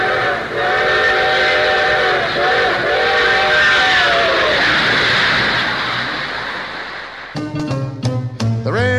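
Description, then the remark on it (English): A steam train rumbles past, its whistle sounding in long sustained blasts over the chugging, then fading as the train pulls away before a voice begins speaking. “It comes and goes through the middle of the house, and the trains are all on time. And here comes the 509.”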